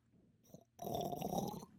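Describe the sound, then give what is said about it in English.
A short, faint sip and then one drawn-out, noisy slurp of water, lasting under a second, with no talking. “What is your water going to sound like when you slurp it?”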